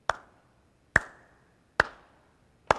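Four crisp handclaps from audience members at the back of a room strike at an even, steady beat, clapping along to a song, each a sharp snap with a short ringing tail and quiet gaps between; no one speaks.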